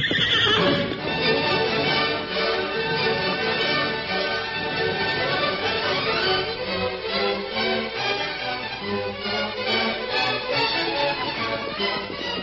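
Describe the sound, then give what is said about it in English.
The horses of the Lone Ranger, Tonto and Jeff whinny with loud, shrill, wavering neighs as they are reined in on the bank of a stream near a steep cliff, hooves clopping steadily underneath, a busy, continuous din of several animals lasting the whole stretch with no voices. “That afternoon, the Lone Ranger, Tonto, and Jeff reined in their horses on the bank of a stream, not far from a steep cliff latticed with scrubs and vines.”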